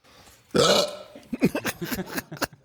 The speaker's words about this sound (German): Es begann vor etwa 3 bis 4 Jahren, dass ich auf einmal einen Schluckauf entwickelt habe. Es ist sehr mysteriös, ich weiß nicht warum, ich habe das jeden Tag. Ist aber auch gar nicht so wichtig, woher das kommt.